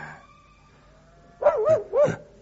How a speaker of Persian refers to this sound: چخه چخه پدر سگ چخه بیمحل، پارس بیموقع تو خواب خوش مرا برید.